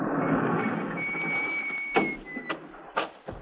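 A small side door slides open, grinding along its track with a steady scraping rumble and a faint squeal, then a few sharp knocks and rattles as it comes to a stop.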